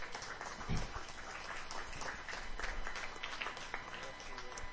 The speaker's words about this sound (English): Give the Lord a clap offering in this house.